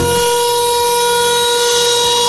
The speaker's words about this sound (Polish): Jak przekonał się nasz dziennikarz Krzysztof Kot, zamiast dzwonka na przerwę słychać syreny.